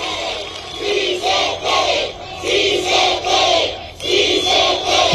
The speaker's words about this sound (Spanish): Con gritos de presidente, presidente, le desearon lo mejor para la próxima contienda electoral, la cual arranca en Sonora.